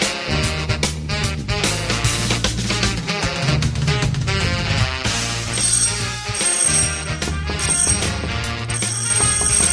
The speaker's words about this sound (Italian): forse la cosa ti sembrerà un tantino strana, ma la circostanza che questo campanello d'ingresso continui ininterrottamente a suonare da 3 giorni a questa parte, temo quantomeno implichi l'esistenza, al di là del portoncino blindato